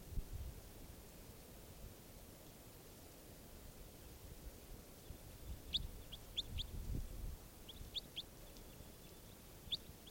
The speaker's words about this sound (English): 587 still. This bird, 587 again.